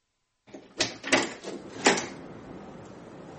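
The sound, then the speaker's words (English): A door is opened: a few sharp clicks and clunks of a latch and handle in quick succession, then a soft, lingering rustle as it swings. Moderately loud, no voices. “I'll get the door.”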